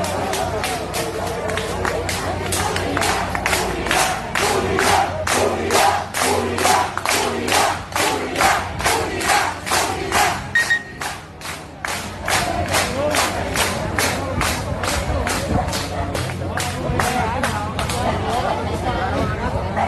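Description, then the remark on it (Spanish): A large protest march crowd gathered at the foot of a lighthouse shouts "unidad" in unison, a steady rhythmic chant of many voices rising and falling over a continuous roar of babble, loud throughout. “Que gritaban unidad.”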